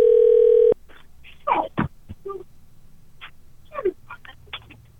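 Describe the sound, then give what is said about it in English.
A loud, steady electronic phone tone sounds for under a second and cuts off, followed by scattered short clicks and brief chirping bursts over a quiet hum, as a telephone is dialed to call a woman's husband. “Let's call her husband.”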